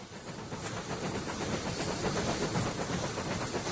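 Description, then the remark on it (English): A train bound for Zurich in 1915 runs steadily along the rails, a continuous broad rumble and hiss at an even loudness throughout, with no distinct clacks standing out and no voices. “Until June 27th, 1915, when you boarded a train for Zurich.”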